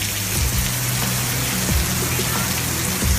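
Heavy rain pours down in Gelsenkirchen city centre at Heinrich-König-Platz, in a dense, steady hiss, with a low rumble underneath and occasional louder splashes or thuds breaking through the constant roar.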